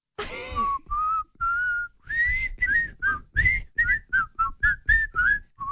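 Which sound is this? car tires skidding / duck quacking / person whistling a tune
person whistling a tune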